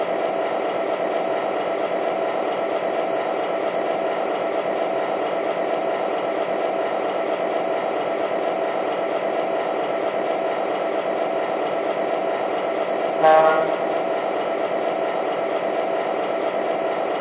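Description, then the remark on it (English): A passenger train, number 27 from New York, arriving on track 1 at a station: a steady diesel engine drone that holds constant throughout, with one brief metallic clank near the end. No voices. “Now arriving from New York on track 1, train number 27, the Royal Blue.”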